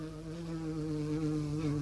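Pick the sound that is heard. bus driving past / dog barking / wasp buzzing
wasp buzzing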